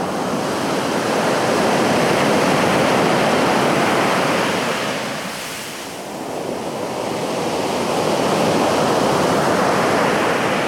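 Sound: wind blowing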